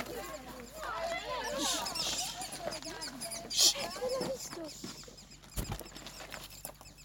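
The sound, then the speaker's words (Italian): Woodpecker nestlings inside their nest chatter and buzz, calling for their mother in a continuous, squeaky begging chorus, swelling in short loud bursts, with faint murmured voices and outdoor background noise. “Li sentite? Sono i piccoli del picchio.”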